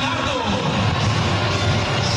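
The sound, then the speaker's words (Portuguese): A dense stadium crowd roars steadily for a couple of seconds during the team lineup announcement on the stadium's big screen. Most fans applaud, while low, drawn-out booing from a few fans is blended into the wash of noise rather than standing out on its own. “Também tem um pouquinho de vaia, baixinho, mas tem, pouca gente.”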